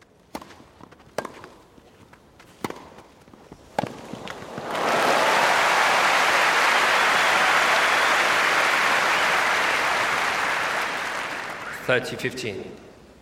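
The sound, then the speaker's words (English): A few scattered sharp claps and thuds give way to a loud, sustained wash of crowd cheering and applause at a match that lasts several seconds before fading, with a few knocks at the end. “So when you're in the middle of a cheering crowd, when it's been recorded well, the surround really involves you in the play, if you like.”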